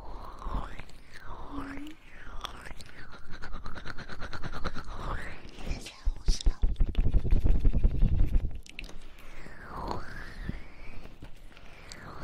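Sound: dog panting heavily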